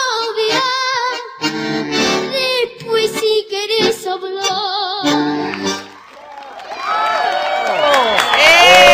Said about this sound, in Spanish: Estamos aplaudiendo, ¿no? Grande, ¿no?